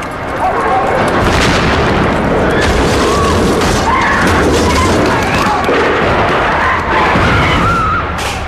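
Loud, chaotic bursts of explosions and gunfire blend into a continuous dense roar, with raised voices, shouts and screams rising through the din, during an embassy rescue operation at Prince's Gate as the embassy is swathed in smoke.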